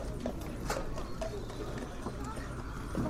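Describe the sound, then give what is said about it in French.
Horse hooves clip-clopping at a steady walking pace as a captain confiscates the horse, with a low rumbling background and some faint speech mixed in. “Là, le capitaine a décidé de confisquer le cheval.”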